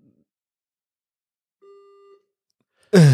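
A single steady electronic signal beep, mid-pitched and lasting about half a second, sounds alone in near silence, signalling question time in the Swedish parliamentary chamber; a moment later a man's voice begins speaking.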